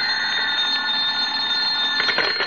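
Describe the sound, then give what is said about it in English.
An old-fashioned telephone bell at home rings continuously for a couple of seconds, a bright, rattling metallic jangle, fairly loud, with no voices. “He was reading the morning paper at home when the phone rang.”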